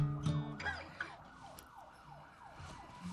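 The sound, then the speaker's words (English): Emergency vehicle sirens screech outside a radio studio with repeating rising and falling sweeps, steady and moderately loud, with some low rumbling noise beneath and no one talking. “It's appropriate that they're screeching outside.”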